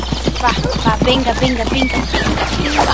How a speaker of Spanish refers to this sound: Parece que ya se calmó, ahorita que está trotando. A los caballos les gusta correr.